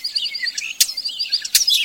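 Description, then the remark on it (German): A common starling sings, a busy stream of chattering whistles and squeaky trills with two sharp, clicking bursts breaking through, no voices present. “Den Star.”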